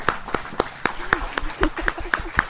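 A crowd claps together in a steady, even rhythm, about ten sharp claps in quick succession at moderate loudness, with faint voices murmuring underneath. It is another round of applause for a man and the brothers present who prepared some food.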